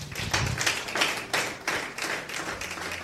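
A church audience claps together during a sermon in a steady, rhythmic beat, roughly three sharp claps per second, fairly loud and continuous, with no voices over it.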